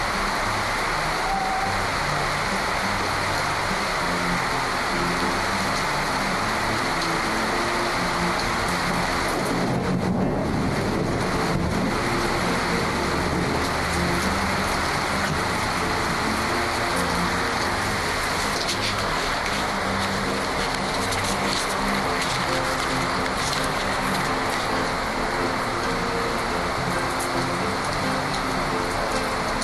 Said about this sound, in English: Take a few minutes now and listen to the summer storm and reflect on your day.